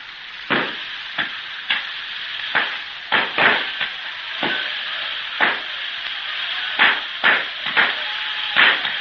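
A fireworks display: a steady hissing crackle broken by sharp, irregular pops and bangs, over a dozen in quick succession, with no voices.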